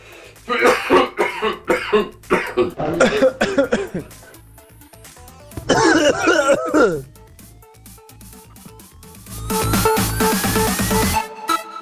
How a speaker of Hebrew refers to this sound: בוא נשמע משיעול כבד, בוא נשמע.